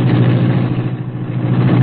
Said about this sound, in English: Though supposedly abandoned, this building served as the hiding place for the sleek, super-powered Black Beauty, streamlined car of the Green Hornet. Britt Reed pressed a button. The green car roared into life.